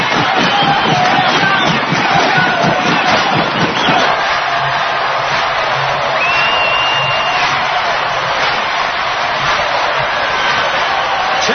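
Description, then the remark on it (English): A loud baseball stadium crowd in Cleveland, fans on their feet, roars steadily for about twelve seconds, a dense wash of cheering and clapping with rhythmic stomping underneath, no single voice standing out. “They're on their feet here, stomping, clapping.”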